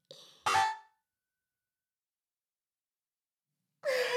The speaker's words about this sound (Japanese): 旦那様の寝顔をスマホで撮影しちゃえ。えい。